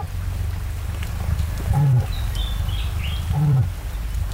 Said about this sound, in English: cassowaries are capable of making remarkable sounds